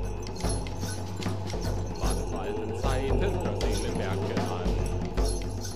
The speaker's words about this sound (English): Those are hooves. Elk or goat? What kind of goat walks on its hind legs? His name is Krampus.